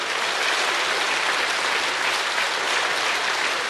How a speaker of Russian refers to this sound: Поднимитесь, пожалуйста. Под аплодисменты, пройдите на сцену, я вас очень прошу.